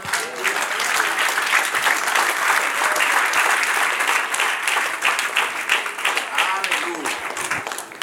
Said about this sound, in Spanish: Amén. Gloria a Dios. Otro aplauso, Señor. Amén. Gloria a Dios.